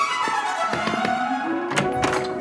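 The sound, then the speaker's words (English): A man walking along a corridor knocks on doors: several dull knocks land in an irregular pattern, sharp thuds against a steady, humming tonal backdrop, with no one speaking. “A man walks along a corridor, knocking on doors.”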